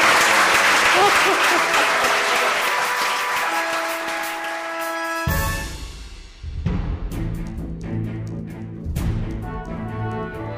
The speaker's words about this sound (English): And with that, that concludes our debate on infrastructure for the city of Little Rock. Please give the five candidates for mayor a round of applause.